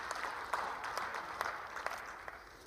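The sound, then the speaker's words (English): An audience breaks into steady applause during a sermon, a dense wash of many hands clapping at once that holds evenly for a few seconds, with no voices standing out. “Now, we all clap on that when we want to be the people that somebody's giving it away to, but He wants to make you the one that's giving it away.”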